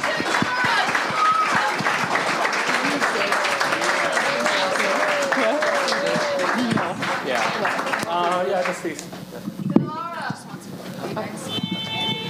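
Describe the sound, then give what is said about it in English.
An audience applauds loudly with dense, steady clapping and scattered cheering voices, then the applause thins out in the last few seconds as a few voices carry on over it; a final round of applause at a live women's hockey show for guests Laura Stacey, Shay Tiley, Renata Fast and Jamie Lee Rattray. “All right, I think on that note, let's give one final round of applause.”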